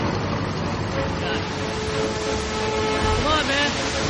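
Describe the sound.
A motorboat engine roars hard and steady, loud, over the churning water of a heavily flooded river as the boat is pushed for all it's worth, with a brief voice rising faintly beneath the din near the end.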